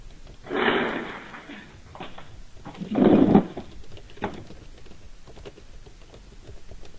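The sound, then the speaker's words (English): A woman shuffles furniture around as she gets ready to present: two broad scraping, dragging bursts separated by a pause, with a few scattered knocks and clicks in between, heard alone without any talking. “Sounds like she's shuffling the furniture around.”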